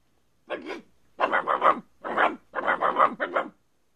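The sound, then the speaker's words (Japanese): Hunting dogs growl and bark in four rough, rumbling bursts over about three seconds, fairly loud, with short pauses between them and no talking, as they spot a deer in a forest and run toward it. “悪体温の犬たちが鹿になった悪体温を見つけて目を光らせながら走ってくるではありませんか。”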